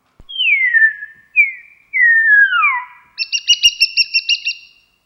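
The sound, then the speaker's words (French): Pure, clear whistled calls from an animal in a colony, whistled themes that mark each individual: four descending gliding whistles, then a quick series of short, rhythmic pulsed notes, fairly loud with no talking. “Après, au sein de chaque colonie, on a des thèmes sifflés aussi, vous voyez, c'est des sons très purs, qui caractérisent chaque individu dans la colonie.”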